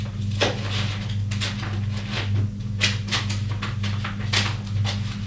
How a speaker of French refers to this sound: Elle ouvre le secrétaire et cherche dans les papiers.